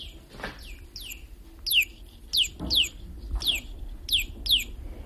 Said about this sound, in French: C'est un petit oiseau qui ne chante que quand on le touche. Et je me suis dit, chaque fois que je serai en panne, entre deux idées, le temps que je rassemble un peu ma tête, parce que j'avais rien écrit, je ferai jouer le petit oiseau.